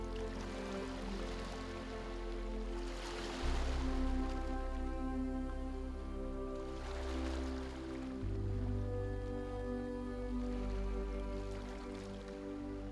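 Soft, gentle small ocean waves wash in and draw back in slow, rhythmic swells, heard over a steady sustained musical drone with no talking.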